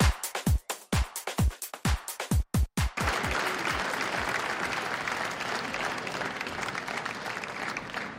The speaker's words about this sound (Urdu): تالیوں کی گونج اور ملی نغمے پر مبنی دھن سے نیو یارک میں اقوام متحدہ کے جنرل اسمبلی ہال میں صوفی میوزک کانسرٹ کا آغاز ہوا.